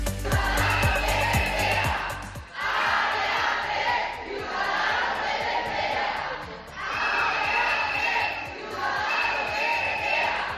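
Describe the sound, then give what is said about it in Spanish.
Workers of internal medicine ward 1 of Hospital Rafael Méndez, the reference hospital of Health Area 3, chant and shout in loud, rhythmic bursts while protesting in the morning at the hospital's gates, the voices rising and falling in repeated waves, with a steady clatter of beats underneath. “Este sonido es el que nos deja los trabajadores de la planta de medicina interna 1 del Hospital Rafael Méndez, que se han manifestado esta mañana a las puertas de este hospital de referencia del Área 3 de Salud bajo el lema Desmantelan”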